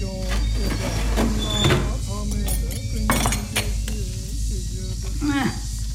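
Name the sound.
dishes clinking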